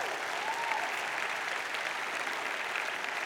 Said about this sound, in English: Give the Lord a good clap.